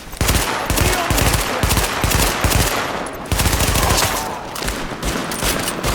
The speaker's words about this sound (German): Ein paar Gestalten in Kapuzenpullovern versperren uns den Eintritt ins Krankenhaus. Sie haben Dr. Candle als Geisel genommen und brüllen uns irgendwas zu. Wir haben gelernt, nicht mehr zu zögern und eröffnen das Feuer.